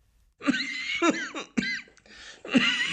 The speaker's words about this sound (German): Entschuldigung. Trockener Husten.